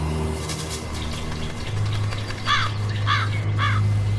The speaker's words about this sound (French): une corneille est posée sur une branche. Dans quelques secondes, elle va s'envoler.